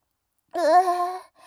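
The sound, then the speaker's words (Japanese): A single drawn-out voiced burp after drinking carbonated alcohol, tonal and fairly loud, lasting under a second after silence, with a faint trailing sound at the end. “こんな、人様とお酒飲んでてゲップしちゃうようなね、汚い女じゃないんだよ。”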